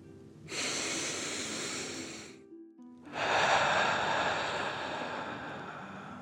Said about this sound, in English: Breathing in through your nose and breathing fire out your mouth. Again, deep breath in and out. Last one, fill up your belly.